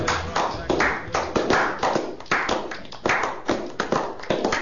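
An audience applauds with dense, steady clapping from many hands, a loud crackling patter that holds an even level throughout with no voices over it.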